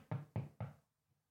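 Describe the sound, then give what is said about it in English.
Three firm knocks on a solid surface in quick, even succession, each a sharp thud with a short resonant decay, fairly loud, followed by silence. “Hey, it's me, the knocking guy.”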